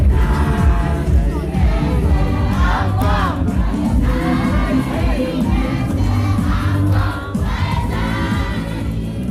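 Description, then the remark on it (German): Hundreds of voices sing a birthday song together at the close of an ARCOM conference in Morocco, loud and euphoric, a dense wall of pitched crowd singing that carries steadily through the whole stretch with rising swells. “Die Konferenz endet mit einem gemeinsamen, euphorisch gesungenen Geburtstagslied aus hunderten Kehlen.”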